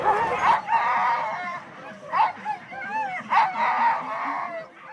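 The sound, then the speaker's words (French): A pack of sled dogs barks and yips excitedly, overlapping cries and howl-like yelps filling the air continuously, loud with no pause. “J'ai des huskies depuis 37 ans, et je cours à peu près depuis 30 ans.”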